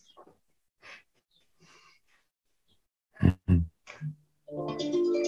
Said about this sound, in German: Da klingelt der Wecker. Als hätte man das inszeniert, ja.